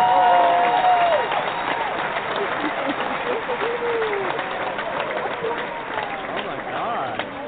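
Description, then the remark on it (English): An audience gives a standing ovation as guest Jennifer Elise Cox is welcomed, clapping steadily and loudly for several seconds, with rising whoops and cheers cutting through the dense applause before it eases slightly toward the end. “that's a standing O for you, Jennifer. That's a real applause up in really here.”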